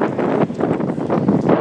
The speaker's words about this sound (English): Don't know if you can hear the rain falling and the wind blowing.